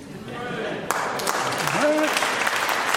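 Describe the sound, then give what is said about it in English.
An audience at a church service breaks into applause after a short message, the clapping swelling into a dense, steady wash of claps that stays loud to the end, with a voice calling out briefly over it. “Don't clap it. Don't clap it.”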